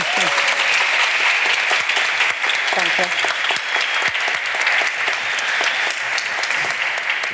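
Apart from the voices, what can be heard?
audience applause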